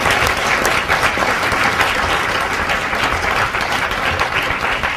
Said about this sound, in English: All right, so let's see if we can move away now from the applause and wrap this thing up.